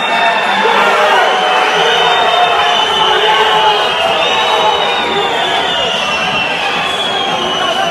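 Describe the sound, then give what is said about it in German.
An ice hockey arena crowd roars in loud, sustained protest at the referee, a dense wall of shouting, whistling and jeering voices that stays steady for the whole stretch. “Bis dahin hat es zwischendrin aber auch mal etwas zu reklamieren gegeben. Also die Zuschauer, richtig Schiedsrichter, hören wir mal.”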